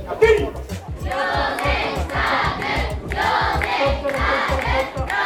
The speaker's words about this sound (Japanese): 今日は浄法寺小学校の調査報告をお聞きいただこうと思いますが、おや、体育館の裏手の方から何やら歓声が聞こえてきますね。